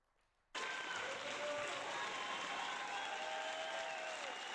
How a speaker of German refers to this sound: gerne wieder einen herzlichen Applaus dafür bitte.